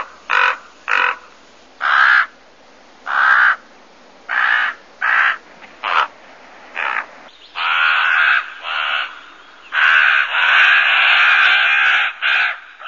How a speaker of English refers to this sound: Okay, that's the raven sound.